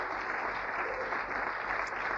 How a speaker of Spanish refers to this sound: Si vas a aplaudir, fuerte hacelo. Aleluya.